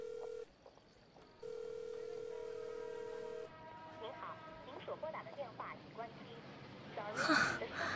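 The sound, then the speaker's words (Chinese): A phone call rings out unanswered: a steady electronic ringback tone sounds, pauses, then sounds again before cutting off into faint background noise and a soft breath. “每次约会都迟到，电话也不接， 微信也不回，真是气死我了。”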